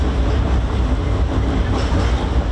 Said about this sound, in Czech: huk tramvaja preko mosta na Savi, jednog od simbola glavnog grada, prema najavama vlasti, broji svoje posljednje mjesece.